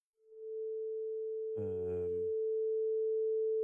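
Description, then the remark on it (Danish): A steady, clear electronic tone heard during technical problems starts almost at once and holds unchanged to the end, with a short buzzy, voice-like burst briefly overlapping it midway. “Det er det, der hedder en klar tone.”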